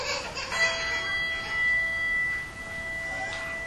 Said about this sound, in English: And we toll the bell for family and friends named in our hearts who are now with the Lord in heaven.